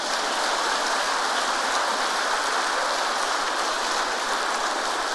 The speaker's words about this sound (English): Yes, you can give a big round of applause.